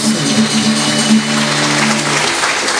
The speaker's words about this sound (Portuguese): Vamos aplaudir a presença do Espírito Santo.